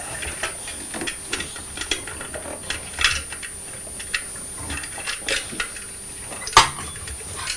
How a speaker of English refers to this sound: What's happened there? The van fell onto the post van. Post lorry.